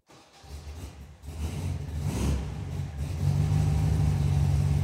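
A vanilla and mint Volkswagen Beetle engine revs, its low, throaty rumble climbing in pitch and loudness in stages before holding a steady, louder drone. No one speaks.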